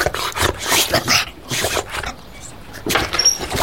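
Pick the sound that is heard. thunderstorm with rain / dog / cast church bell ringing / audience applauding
dog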